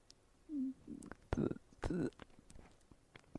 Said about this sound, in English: Oh, I can hear him swallowing.